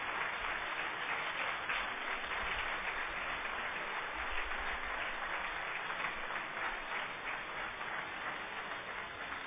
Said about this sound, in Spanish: Un aplauso para ellos. Un aplauso para ellos.